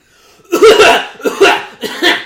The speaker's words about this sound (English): Cough up a lung.